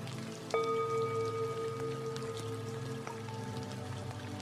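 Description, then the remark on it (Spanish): Steady, soft rain patters continuously while a resonant chime rings out and slowly fades, with a second fainter tone partway through. No one speaks. “Escucha la lluvia y descansa.”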